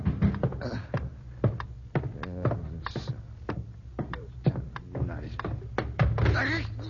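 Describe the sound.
A man, hurrying downstairs in the middle of the night to answer a pounding at the door, stumbles clumsily into a chair: a scatter of sharp wooden knocks and thumps, some loud, clattering irregularly while a voice murmurs underneath.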